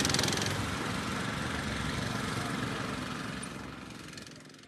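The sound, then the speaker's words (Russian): The engine of a small walk-behind tractor (motoblock), being ridden to a village, runs steadily with a loud, rattling, buzzy drone and no speech, the noise easing slightly toward the end. “Мы поехали в село на мотоблоке.”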